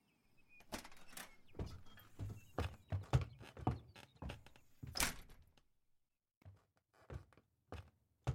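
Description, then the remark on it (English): A string of hard thumps and clunks as the door to a guest room is handled and opened, followed by a short pause and a few softer knocks. No one speaks. “Uncle Victor opened the door to the guest room.”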